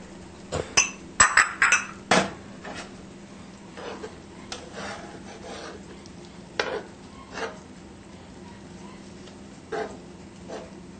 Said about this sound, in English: Mix it around so the capers get distributed.